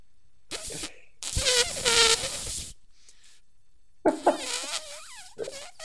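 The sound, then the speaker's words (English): A person imitates an elephant trumpeting: a few loud, brassy, buzzing vocal blasts with wavering, sliding pitch, separated by short pauses, the last one rising and falling. “That wasn't a very good elephant sound, was it? Let me try again.”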